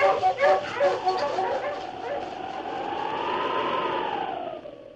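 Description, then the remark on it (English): Sled huskies bark in a quick flurry of yips, then one drawn-out, wavering whimper rises and falls in pitch before fading, with the pack still faintly barking underneath, as a sergeant urges his dog King and the huskies on along the trail. “On, you huskies.”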